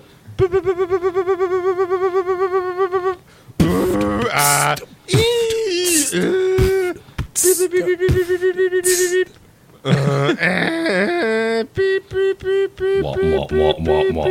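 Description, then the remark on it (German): A Stenocord 2700 dictation machine held up to a telephone gives loud, distorted, buzzy tones whose pitch wobbles and warbles, coming in choppy bursts separated by brief gaps, with no talking. “Ich halt meinen Stenocord 2700 ran ans Telefon und ich glaube, damit habe ich gerade den Dubstep erfunden.”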